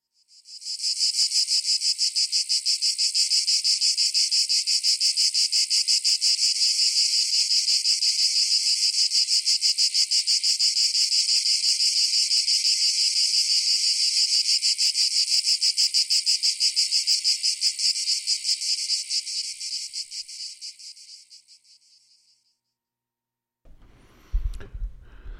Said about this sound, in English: The sound of the amazing cicada.